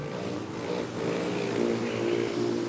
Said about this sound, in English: Don't be fooled by the gentle whirring sound of a hummingbird in flight. This male rufous hummingbird performs elegant and aggressive courtship displays to defend his territory, and he may travel hundreds of miles to find a mate.